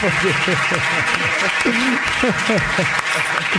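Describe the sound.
Steady applause from a live show audience fills the whole stretch, dense and loud, with cheering voices and whoops rising through the clapping.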